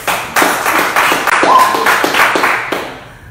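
An audience claps steadily for a few seconds, a dense patter of many hands at a loud, even level that fades slightly at the end, with no voices over it.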